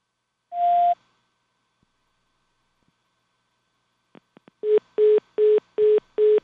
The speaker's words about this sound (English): Well, that cheers me up. That's the sound of a circuit busy over in England, I think.